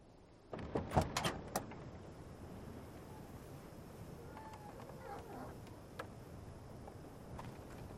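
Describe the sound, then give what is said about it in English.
A car door opens and shuts with a few sharp clunks and rattles near the start as a man steps out onto dirt in the desert at night and slowly closes the door, followed by a quiet, windy outdoor hush with faint scattered sounds. “He sets his booted feet down in the dirt, then slowly closes the door.”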